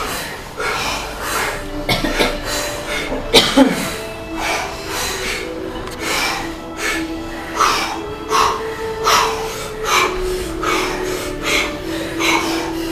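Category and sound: human body sound, deep breathing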